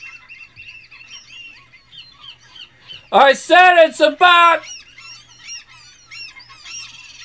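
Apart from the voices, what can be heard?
many seagulls calling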